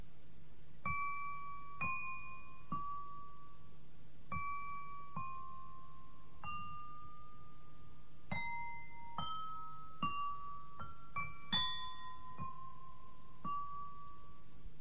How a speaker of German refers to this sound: Darf ich dir eine Antwort mit meinen Musikgläsern geben?